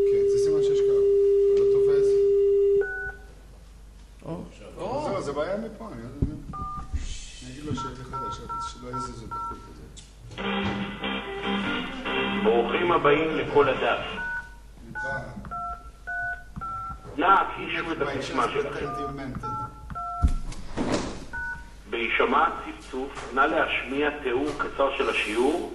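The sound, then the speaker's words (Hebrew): A steady telephone line tone hums for a few seconds, then a series of short, beeping dial tones are punched in at an uneven pace while people talk over them. “רגע, זה סימן שיש קו?”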